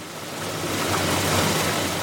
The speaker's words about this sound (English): So in California's Central Valley, they're pumping it out of aquifers hundreds of feet underground. That's what you see and hear, right alongside fields and orchards that feed a good part of the U.S.